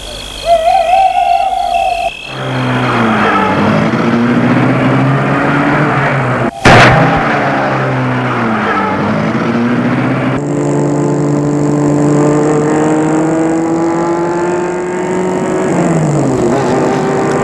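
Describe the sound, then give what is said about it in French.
A man starts his car after a gate opens and drives toward a château; the engine runs loudly, its pitch rising and falling as it revs and pulls away, with a sharp knock partway through and a brief hooting tone at the start. “Et la met en route.”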